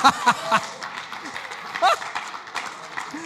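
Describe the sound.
A short burst of audience applause, a dense patter of many hands clapping at moderate loudness, with a voice briefly audible among the claps.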